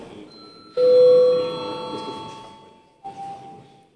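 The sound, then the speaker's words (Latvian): A parliament session bell, rung at the chair's request before deputies register, rings out with a loud, sustained tone that slowly fades, then a second, shorter chime sounds near the end. No one speaks. “Lūdzu zvanu.”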